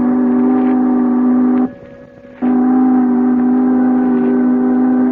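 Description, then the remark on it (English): A departing boat sounds its horn: a loud, steady, low-pitched blast, a short pause filled by a softer engine hum, then a second, longer blast. “And now the boat is moving.”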